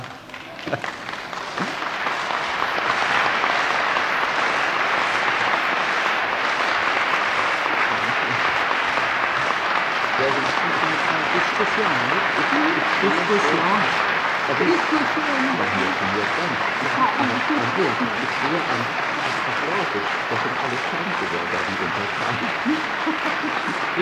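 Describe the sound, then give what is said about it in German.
Sustained applause from a large audience at a congress, a dense wash of clapping that swells in over the first few seconds and holds steady and loud for about twenty seconds, with faint voices beneath. “Ich sehe aber an Ihrem Applaus, gehorsame Untertanen sind Sie bestimmt nicht.”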